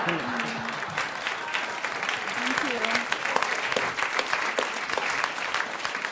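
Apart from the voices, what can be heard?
audience applause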